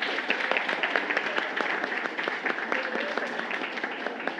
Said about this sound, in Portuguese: Muito obrigado, uma salva de palmas para todos nós.